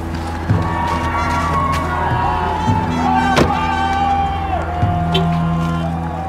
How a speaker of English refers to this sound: Immediately, I see this sea of people. Protesters who have lined up on one side of the street with bullhorns. They're yelling and chanting.